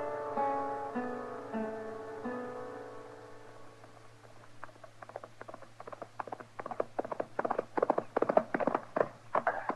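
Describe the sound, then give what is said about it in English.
A short musical passage fades out, then the hooves of a horse being ridden clip-clop in a steady rhythm, growing louder, with no talking over them. “good horse, Kitty. You've been on him an hour.”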